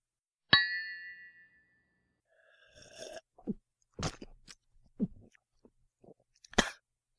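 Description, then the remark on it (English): Glasses of water clink once in a toast, a sharp bright strike that rings out in a clear, decaying tone, followed by several soft, irregular clicks and crunchy sipping noises with no talking. “We're toasting with glasses of water?”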